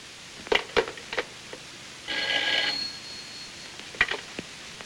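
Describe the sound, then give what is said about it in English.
A single brief burst of a telephone bell ringing sits between sharp clicks and clatter as a man grabs the phone and handles the receiver. There is no talking. “He grabs the phone as the waiter exits.”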